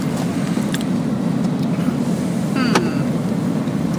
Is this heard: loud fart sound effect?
no